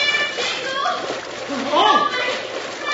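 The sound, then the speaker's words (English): Steady, loud rush of churning river rapids with continuous splashing, as horses, a heavy freight wagon and riders plunge into the rapids after the timbers of Long Bridge give out; a young voice cries out briefly in the middle over the turbulent water. “the timbers, cut by one shot, gave out, plunging horses, wagon, and riders into the rapids below.”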